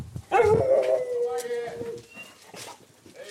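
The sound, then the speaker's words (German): A dog gives a sharp bark that stretches into a long, wavering howl, fairly loud, with a person's voice briefly speaking around it. “Nee, leider für dich ist nichts dabei, lieber Hund.”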